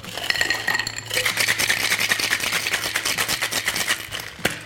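Ice rattles hard inside a cocktail shaker holding rhubarb gin, freshly squeezed white grapefruit juice and sugar syrup, in a fast, steady rhythm of sharp clattering bursts that continues for several seconds, preceded by a brief softer clink, with a low hum underneath.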